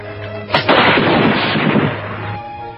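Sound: machine gun fire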